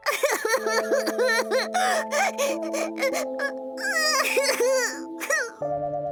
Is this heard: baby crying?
yes